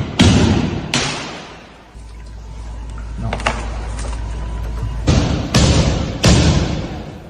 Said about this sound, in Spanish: Eso que han escuchado, esos golpes que escuchan, es los bomberos rompiendo los cristales de los vehículos para poder acceder a su interior y ver si hay fallecidos